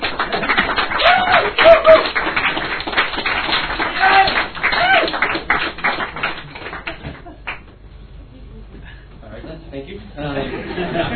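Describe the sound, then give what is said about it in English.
A crowd at a poetry reading applauds to welcome the five-word champion, with dense, steady clapping for about seven seconds, then the clapping thins out and dies away before a single voice begins speaking. “Now shall we welcome with rapturous an orgasmic applause our five-word champion”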